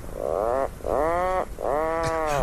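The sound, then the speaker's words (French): Three drawn-out, low, groaning calls from a seabird known as the sea clown, each rough and buzzing like a revving chainsaw, separated by short pauses, with no voices present. “Alors aujourd'hui, c'est... On le surnomme le clown de mer.”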